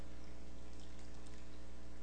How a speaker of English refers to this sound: This morning, as we hear your living water flow, Lord, we ask for your powerful anointing to be upon us.